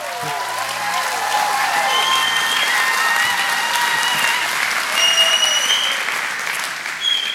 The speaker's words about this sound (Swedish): Kan vi ge kung Jesus en applåd?